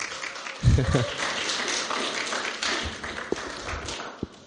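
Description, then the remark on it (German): A burst of audience applause with some cheering for an Austrian in the audience, a dense wash of clapping that stays fairly steady for several seconds, with a few sharper claps and voices mixed in. “Fetten Applaus für ihn.”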